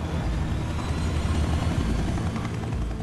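A helicopter's rotor drones in a loud, steady rumble, heavy in the low end and heard alone with no voices, holding at a constant level for the whole few seconds.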